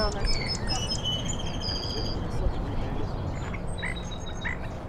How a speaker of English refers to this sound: Song sparrows are all over the country. They don't sound the same. There are regional accents for birds, which I know sounds kind of crazy, but it's true. But that cadence is very similar all over the country.